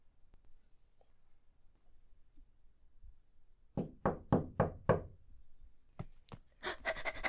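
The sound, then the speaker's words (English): A quick run of about five firm, evenly spaced knocks on a door, followed by a few more scattered thumps and rustling after a short pause. No one speaks. “If it's not you behind the door and it's some weirdo like the mailman, I'm gonna feel really fucking weird because I'm just screaming, Daddy!”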